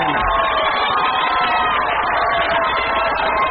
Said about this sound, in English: It's canned applause. That's what we used to use for the old shows, don't you remember?